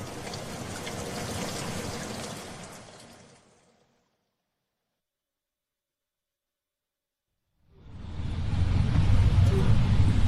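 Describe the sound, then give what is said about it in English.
Heavy rain pours down in a steady, dense hiss that fades away into a few seconds of silence, then swells back in just as loud and continuous. “Here comes the rain.”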